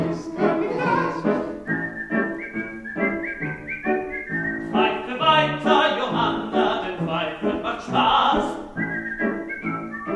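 A bright whistled melody rides over an old-fashioned close-harmony song, with steady rhythmic backing and blended voices, sustained whistled notes recurring throughout at a clear, fairly loud level.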